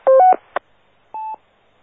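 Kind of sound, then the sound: signal or alarm, radio roger beep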